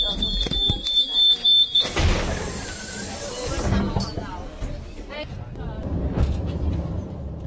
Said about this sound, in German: Die Türen zu und schon gleitet man hoch auf den Laurenzi-Berg. Es sind nur 130 Höhenmeter, die überwunden werden. Aber die Aufstiegshilfe auf den Aussichtsberg von Prag ist bei Einheimischen genauso beliebt wie bei Touristen.